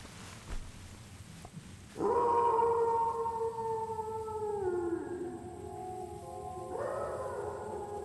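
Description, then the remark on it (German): Wolves howl in long, drawn-out wails, one sliding slowly downward before a second howl rises near the end. The howls are fairly loud and steady, with no talking. “Sind das Wölfe?”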